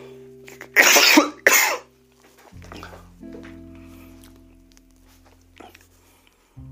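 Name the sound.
cough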